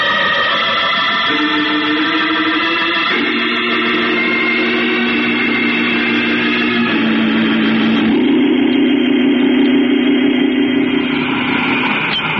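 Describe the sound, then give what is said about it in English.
A loud, steady sci-fi rocket engine drone of a jet boat blasting through space, with layered humming tones that shift pitch in stepped jumps, roaring continuously throughout with no voices. “You and I are blasting over there in our own jet boat to take a look.”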